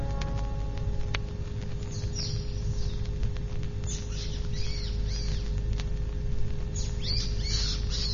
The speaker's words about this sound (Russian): Птичка, почему ты так кричишь? Что-нибудь случилось с птенцами? Да не щебечи ты так, я ничего не могу понять.